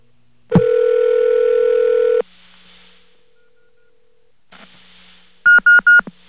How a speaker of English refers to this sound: This is what a beeper sounds like when you connect to it.